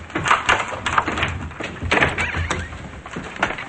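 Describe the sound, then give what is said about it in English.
A door creaks open in a series of uneven, squeaky groans, each with a scraping, mid-pitched edge, fairly loud and with no voices. “As Frank starts to walk away, Melvin opens the door.”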